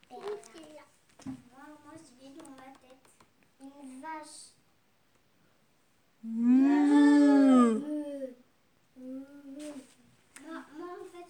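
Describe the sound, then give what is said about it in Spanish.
A voice imitates a cow's moo: one loud, drawn-out, low bellow lasting about a second and a half, its pitch sliding slightly. Softer speech comes before and after it. “Murgió la vaca.”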